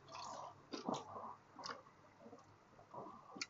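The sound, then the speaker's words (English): Someone takes a sip of a drink, with a few soft, wet slurping and swallowing noises spread over a few seconds and no talking. “Sorry, I had to take a sip there.”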